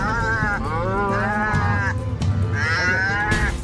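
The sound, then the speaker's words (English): A cow moos loudly in long, drawn-out calls, two or three bellows rising and falling in pitch, with no talking over them. “One of the most popular breeds of dairy cow in this country is the iconic black and white cow.”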